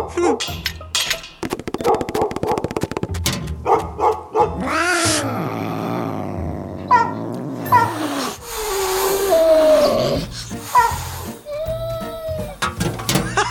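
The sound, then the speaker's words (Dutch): A dog barks and growls in several loud bursts, tangled with yowling and hissing animal cries that rise and fall over a noisy, busy background. “Zometeen scheurt die hond de kaart meteen aan stukken als je de brievenbus openmaakt.”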